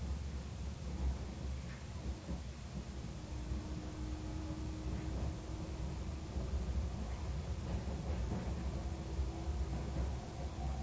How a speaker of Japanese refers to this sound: 電車がカーブを通過します。ご注意ください。